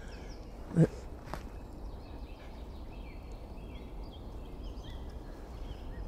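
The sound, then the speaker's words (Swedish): A great spotted woodpecker gives a single sharp, loud call, followed by a fainter second one, in the Delsjö nature area southeast of Gothenburg, Sweden, on a still, nearly cloudless morning, with faint birdsong throughout. “Jag får säga god morgon till Större Hackspetten också.”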